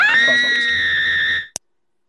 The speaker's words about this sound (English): Was that what? A soundboard, or did you just have a woman in your house? Yeah, my girlfriend heard that. She just screamed into my microphone.